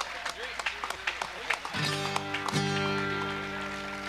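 Audience applause for a banjo player, a burst of scattered, uneven claps for the first couple of seconds, then giving way to sustained, ringing musical tones as the clapping fades underneath.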